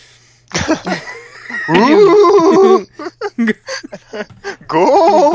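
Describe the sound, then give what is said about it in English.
A person imitates goat bleats: loud, quavering, nasal cries, the longest near the start and end, broken up by short breathy gasps and sputters in between. “That was more like goats.”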